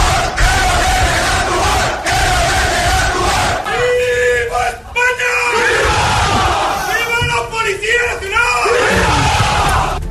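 crowd of protesters shouting

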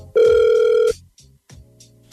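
outgoing phone call ringing

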